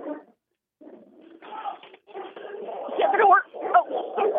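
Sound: dog barking and whimpering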